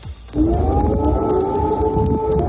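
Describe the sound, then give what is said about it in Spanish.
Air raid sirens in the Kyiv region of Ukraine wail with a long, sustained rising and steady tone over a dense rumbling background, starting abruptly after a brief quiet moment and staying loud throughout. “En la región de Kiev han vuelto a sonar las alarmas antiaéreas.”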